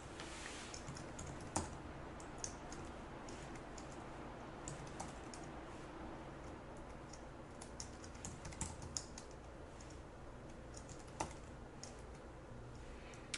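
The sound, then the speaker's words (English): Steady typing on a computer keyboard while entering code for a function named super secret formula, a continuous run of quick, light key clicks with occasional sharper taps, no voices, just the rattling keystrokes throughout. “So notice when I'm typing in super secret formula that I get this listing that there are two different versions of super secret formula.”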